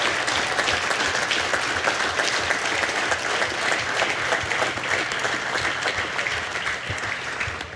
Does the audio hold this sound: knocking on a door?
no